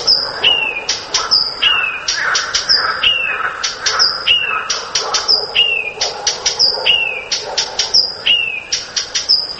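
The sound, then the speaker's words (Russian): A Blyth's reed warbler sings a lively, repetitive song, mixing varied whistles and trills in many imitated calls, with short sharp chek-chek clicking notes inserted before each phrase in a steady rhythm. No voices. “Вот, допустим, садовая камышовка поет на многих голосах, но обязательно перед каждым коленом вставляет чек-чек, и самочка летит на этот чек-чек.”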